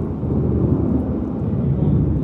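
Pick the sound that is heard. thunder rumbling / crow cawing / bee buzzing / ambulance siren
thunder rumbling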